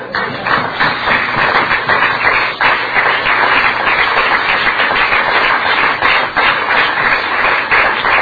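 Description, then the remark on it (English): Steady, loud audience applause fills the whole stretch, a dense crackle of many hands clapping at once with no voices over it. “If you had any guts, you'd applaud.”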